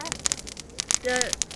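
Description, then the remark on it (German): Bubble wrap wrapped around a kiosk being popped: a rapid, irregular series of sharp, crisp snaps, some louder than others, with a brief voice sound partway through. “je später Sie kommen, desto zerstörter sieht das Knack-Schlachtfeld aus”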